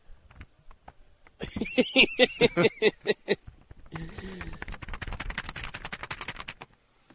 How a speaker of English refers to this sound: What were you flipping? Are you carrying a textbook with you? The legal pad that has all the tallies on it.